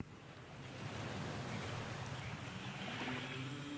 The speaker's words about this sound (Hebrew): כן. ותמיד נחמד לשמוע רחש גלים ברקע, במיוחד אחרי שרב כבד כמו שהיה לנו.